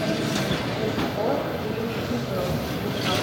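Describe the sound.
A steady, heavy rumble of a train from Kramatorsk pulling in at a platform of the busy Kyiv train station in the evening, with the low murmur of a crowd and indistinct voices mixed underneath throughout.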